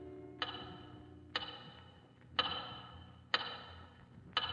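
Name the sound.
big clock ticking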